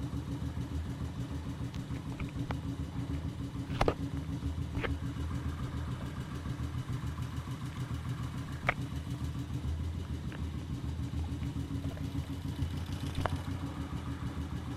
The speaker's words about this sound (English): Pretty quiet. I'm gonna turn the motorcycle off now.